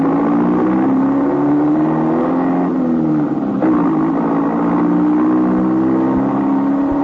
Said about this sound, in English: The day was the roar of the motor, the screech of tires,